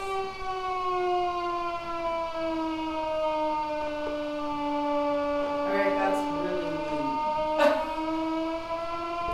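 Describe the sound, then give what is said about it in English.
A loud, sustained siren-like wail with a rich stack of harmonics, its pitch slowly sliding downward over several seconds, with a few faint clicks and bumps underneath. “Sounds like a siren, doesn't it?”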